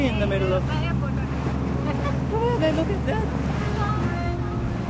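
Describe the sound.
Tourists ride jet skis over the waves in the middle of a harbour beside a rubbish dump on an archipelago; the engine drones steadily and loudly throughout, mixed with rushing water and wind buffeting the microphone, while faint voices rise and fall in the background.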